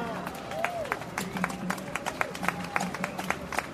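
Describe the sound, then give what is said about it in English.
An audience breaks into scattered hand clapping, a quick irregular patter of sharp, crisp claps that keeps going steadily for a few seconds, with faint crowd murmur underneath. “That's worth a hand clap.”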